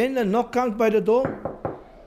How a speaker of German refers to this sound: Dann klopft es irgendwann an der Tür. Ein Polizist holt sein wöchentliches Bestechungsgeld ab.